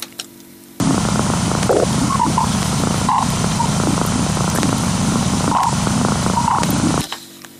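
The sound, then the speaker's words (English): Time-compressed space radio emissions, recorded over a three-hour period on 15 December 2004 and compressed to six seconds by scientists at the University of Iowa: a loud, dense rush of hissing, crackling static that starts and stops abruptly, with faint brief whistling blips scattered through it. “In the sound file, this interval has been compressed to 6 seconds by scientists at the University of Iowa.”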